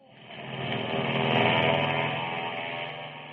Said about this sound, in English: You Air Force veterans listening to our show, doesn't all the noise these planes you hear in the background make you a little bit homesick?